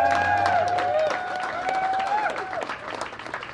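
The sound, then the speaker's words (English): A large audience applauds steadily for the delegates who are present, dense overlapping clapping, with a sustained vocal cheer riding over it early on before the clapping thins slightly toward the end. “So a round of applause for all the delegates who are here.”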